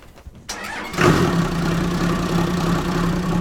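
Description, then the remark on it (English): The engine of a 70-foot-long double-decker tour boat on Lake Buchanan, Texas, cranks briefly, catches with a loud roar about a second in, then settles into a steady, rumbling idle, with a strong low hum throughout. “Sean Devaney starts up the engine on board the Texas Eagle.”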